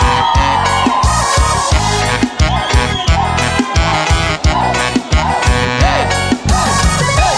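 A loud live concert in Goiânia with a pounding drum beat and dense music, the crowd shouting and cheering along continuously in the mix.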